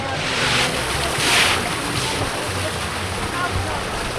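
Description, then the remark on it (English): Water gushes from a fire hydrant opened by three women in shorts carrying buckets and brooms, around the corner from Stetson Middle School, in a loud, steady, hissing rush, swelling briefly a couple of times before settling back into a constant roar. “Around the corner from Stetson Middle School, three women in shorts carrying buckets and brooms have opened a fire hydrant. Water gushes out.”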